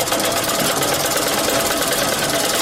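A sewing machine runs steadily as a sheepskin (pustin) coat is stitched on Labi Darya street near a crossroads in Ghazni city, Afghanistan, a continuous rapid mechanical whirring and rattling at an even, fairly loud level, with no voices.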